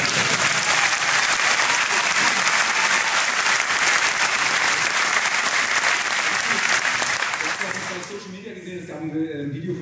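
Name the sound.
applause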